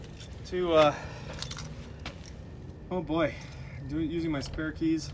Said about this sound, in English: Oh God, where are my keys? Where are my keys? I dropped my keys somewhere. Okay, using my spare keys